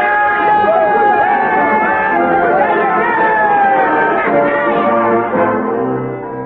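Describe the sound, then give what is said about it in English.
A group of men break out in a spontaneous cheer as the wet, almost exhausted waterman Cruzat comes toward them after running treacherous river rapids. Many overlapping voices form a loud, steady roar that holds for several seconds before easing off slightly at the end. “When it was over and the wet and almost exhausted Cruzat was moving toward us, the men broke out in a spontaneous cheer.”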